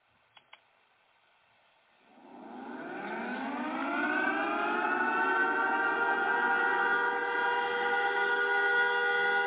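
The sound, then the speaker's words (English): Two quick clicks, then a loud siren, used on a show as a 'fruit bat alarm' signalling a move to the phones, winds up from a low growl to a steady, sustained wail with rich layered tones that holds to the end. No one speaks. “My fruit bat alarm.”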